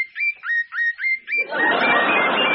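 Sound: birds singing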